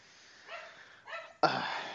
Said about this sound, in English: We're doing this during the day here, so my mom just walked in from work and the dog is going nuts. So I'm sorry if you're hearing that.